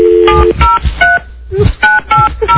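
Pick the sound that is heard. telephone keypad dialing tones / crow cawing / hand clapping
telephone keypad dialing tones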